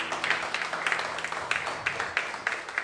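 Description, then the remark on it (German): An audience in a church applauds the band steadily, a dense crackle of many hands clapping at once with a few sharper claps standing out, keeping an even, moderate level throughout with no voices. “Ein kräftiger Applaus für die Band, ja?”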